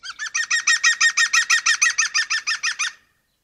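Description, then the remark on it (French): A green woodpecker gives its loud laughing yaffle, a rapid run of about seventeen ringing notes lasting roughly three seconds, clear with no other sounds around it. “C'est depuis ce jour que le pivert appelle la pluie.”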